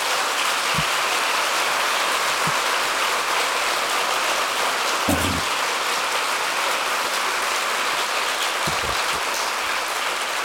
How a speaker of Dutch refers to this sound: En ik wil hier in Den Haag een applaus voor hem.